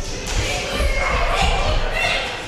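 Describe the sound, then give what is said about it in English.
A group of children imitate a storm together: wind, rain, claps of thunder and then some lightning. They blow and hiss like wind and rain over a steady wash of noise, with low thumps and stamps standing in for thunder. “Winds, rain, claps of thunder, and then some lightning.”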